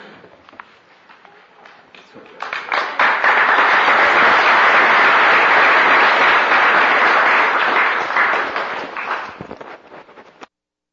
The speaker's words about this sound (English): Well, thank you for that belated applause. Some of you didn't look at the program. It says applause right after the introduction.